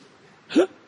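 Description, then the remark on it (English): A voice imitates a single hiccup of a heavily built man whose hiccups would not stop: one short, sharp vocal 'hic' in the middle of otherwise quiet surroundings, moderately loud. “He developed hiccups, and the hiccups were not stopping.”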